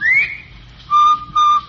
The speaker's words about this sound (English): Of course, you've heard the cheery whistle of the Bob White.